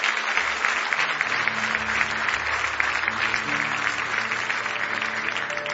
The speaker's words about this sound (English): Give Jesus another big hand clap of praise this morning.